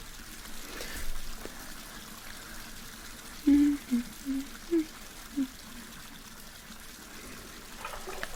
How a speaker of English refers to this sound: Well, I'll just draw the water for you and you scamper in a few minutes when it's ready.